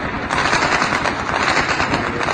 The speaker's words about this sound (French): Puis des tirs, par centaines cette fois, qui résonnent dans le quartier.